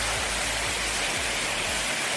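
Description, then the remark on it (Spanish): A heavy downpour of rain and hail during a thunderstorm with strong lightning at night in Aranjuez, Madrid region, makes a dense, steady roar of hiss and patter that fills the whole clip at an even level, with a low rumble underneath and no voices. “Con granizo y con fuerte aparato eléctrico como esta que se vivió anoche en Aranjuez, tormentas que afectaron sobre todo a zonas del sur y del este de la región, sin nada grave que reseñar”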